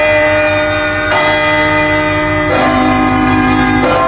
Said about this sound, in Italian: Allora, siamo arrivati al momento del suonare la campana. Andiamo a suonarla? È pronto che suoniamo? Suoniamo. Per chi suona la campana?